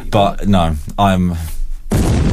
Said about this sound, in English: It's just an explosion whenever I want one.